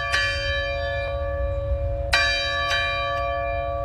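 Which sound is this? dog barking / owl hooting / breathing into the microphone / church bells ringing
church bells ringing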